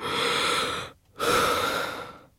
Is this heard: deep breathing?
yes